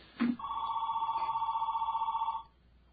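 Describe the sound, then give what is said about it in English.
A telephone rings with an incoming listener call in one long, steady electronic trill with a fast warbling pulse, loud, lasting about two seconds after a brief click at the start, with no voices. “Oh, that sounds like someone with something to say.”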